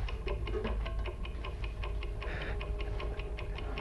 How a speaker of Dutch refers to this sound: Kijk eens. Een langwerpig ei dat tikt. Hier, in de stuurautomaat. Meer een ovoïde. De omtrek lijkt wazig. Zou de temperatuur oplopen? Dat ding staat op springen.